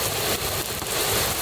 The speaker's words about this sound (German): Was ist denn das? Das ist der Sturm, meine Freunde.